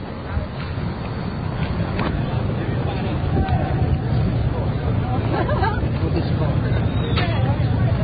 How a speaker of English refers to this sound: Hey, square is almost completely blocked. No cars coming through here at all in the middle of rush hour. Just a sea of police and onlookers.